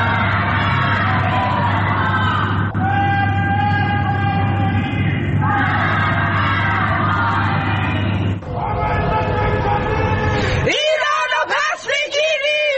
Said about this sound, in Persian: در آستانه سالگرد جانباختن مهسا امینی شامگاه جمعه مردم در برخی شهرها از جمله تهران، مشهد، شیراز، ملایر و کرج از خانه‌های خود شعارهای ضد حکومتی سر دادند.